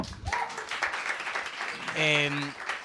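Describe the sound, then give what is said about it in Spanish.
Audience applause, a dense, steady crackle of many hands clapping for about three seconds, with a brief vocal shout or cheer rising above it near the end. “Bien, aplausos.”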